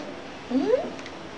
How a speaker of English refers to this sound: Please, please, cat. Oh, the cat is crying. What do you want?